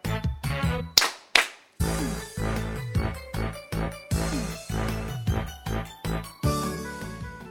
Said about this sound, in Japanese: さあ、息もぴったりの手拍子からスタートしました。